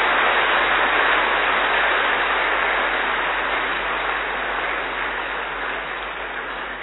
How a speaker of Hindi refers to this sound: अपने परिवार में पहली बार सम्मिलित देखकर हम सब क्या करेंगे, जो पहली बार आए हैं वो अपने लिए और जो उनको देख रहे हैं सबके लिए जोरदार ताली बजाओ।